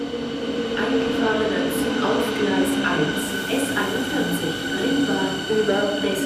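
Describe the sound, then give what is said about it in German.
A Berlin S-Bahn commuter train running: a steady, loud rumble with a high electric motor whine and occasional sharp metallic clicks and rattles throughout. “Das werden Bahnreisende in den nächsten Tagen nicht mehr zu hören bekommen.”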